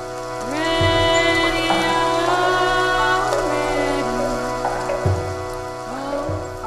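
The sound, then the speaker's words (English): Steady rushing water of a creek in Shenandoah National Park forms a continuous bed of noise beneath a raw solo voice singing long, drawn-out notes of a slow Appalachian ballad. “A raw voice singing an Appalachian ballad fuses with the sounds of a creek in Shenandoah National Park.”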